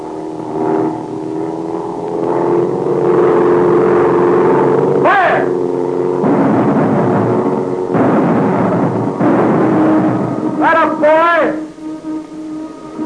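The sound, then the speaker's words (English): A loud, steady aircraft engine drone that wavers and swells, with its pitch bending up and down as the plane swings in a circle and banks, then sweeping sharply near the end as it dives. “The plane is swinging in a circle. It's banking. Getting ready to dive.”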